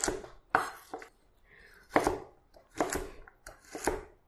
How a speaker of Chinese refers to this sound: 这个就是小丁，就这么小小的，它叫丁。好的，我现在就要快速的把它切完。